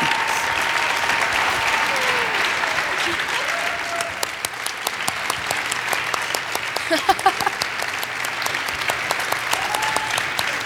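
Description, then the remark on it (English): A crowd applauds steadily and loudly for about ten seconds as a winner is unveiled, a dense wash of clapping with sharper individual claps and a few cheers and voices mixed in. “Cue the applause.”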